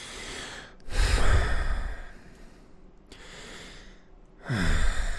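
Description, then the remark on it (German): Heavy, snorting breaths with lip smacking: three loud, noisy exhalations separated by quieter breathing, with no talking. “So, was soll ich noch machen? Schmatzen und schnaufen.”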